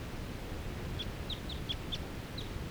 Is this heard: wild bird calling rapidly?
yes